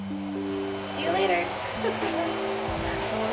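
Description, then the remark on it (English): Electric hair clippers, used by a hairstylist to buzz a person's hair short, buzz steadily throughout, a low motor hum with a bright harmonic edge that shifts slightly in pitch as the blades move through hair. “Next came the buzz.”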